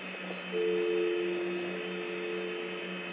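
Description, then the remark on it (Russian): A steady, unbroken telephone dial tone starts about half a second in and holds at one mid pitch to the end, over a low hum and band-limited line hiss. “Ну, гудок слышу, да.”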